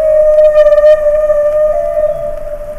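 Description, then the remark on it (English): A humpback whale's mating song in Alaska's waters: one long, steady tonal moan with rich harmonic overtones and a brief pulsing warble early on, heard alone and fairly loud, fading slightly toward the end. “The mating song of a humpback whale.”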